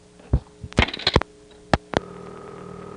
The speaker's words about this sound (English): The digit 8 dialed initially cuts into a second selector. You can hear the cut-in noise, which sounds like this.